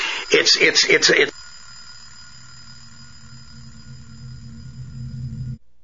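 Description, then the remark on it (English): A loud old-style telephone rings in a quick burst of rattling bell strikes for about a second, then cuts off, leaving a low, steady rumbling hum in the background. “You hear a phone ringing.”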